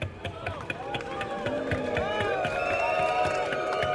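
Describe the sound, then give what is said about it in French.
Scattered, sparse clapping from an audience applauding a raised retirement age, four more years of work for a full pension, mixed with a murmuring crowd and raised voices, holding at a steady, moderate level throughout. “Bizarrement, vous l'applaudissez vachement moins, celle-là.”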